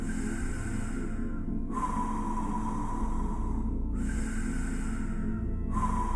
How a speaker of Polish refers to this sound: Powietrze najpierw wypycha brzuch, a potem porusza klatką piersiową i potem jest wydech. Masz czuć, fizycznie czuć, że twój brzuch i klatka piersiowa poruszają się. I możesz taki oddech robić płynnie łącząc brzuch z klatką piersiową.